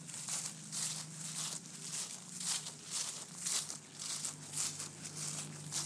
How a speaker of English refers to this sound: See if I can walk through some of these leaves here and you can hear them crunching.